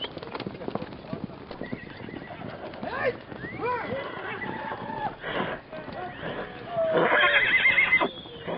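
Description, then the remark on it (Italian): Hooves clip-clop in a quick, steady rhythm, then a horse lets out a couple of loud, quavering neighs, the last whinny rising strongly near the end. “Uomini a cavallo avevano preso ogni strada, in tutte le direzioni.”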